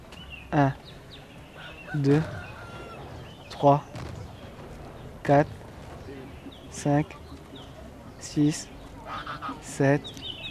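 A duck quacks loudly, about seven nasal calls at a slow, steady pace roughly a second and a half apart, over a faint, murmuring background.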